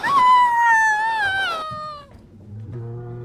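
A newborn baby cries in a stable in one long, high, wavering wail that slides downward in pitch, followed by a brief pause and a lower, shorter cry.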